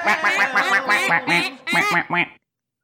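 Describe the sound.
A duck quacks loudly, a rapid string of about nine nasal, raspy quacks in two quick bursts with a brief gap between them, then silence.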